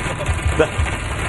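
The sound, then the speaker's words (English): Heavy rain drums steadily on a moving car during a drive to camp, a dense, constant roar over a low engine rumble with a few heavier thumps, loud throughout. “We got pummeled by some rain. I think Adam actually has some audio. It sounded like a war zone.”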